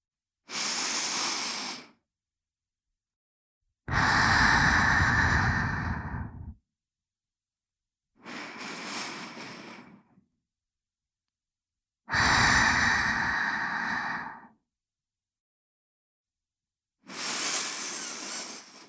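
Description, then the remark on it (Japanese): Slow, deliberate breaths, alternating inhales and longer, fuller exhales, five in all with silent pauses between them; airy and breathy with no talking. “さ、呼吸を整えて。”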